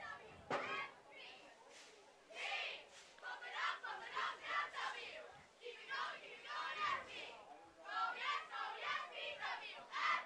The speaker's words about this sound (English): Shout out to the Port Washington cheerleaders doing their thing, hyping up the crowd.